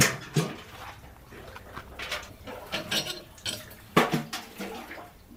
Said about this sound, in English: At midday, he ventures out to the well outside the house where he's staying to draw his daily supply of water.